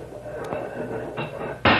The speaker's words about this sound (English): Here. Let's open the back doors on the truck.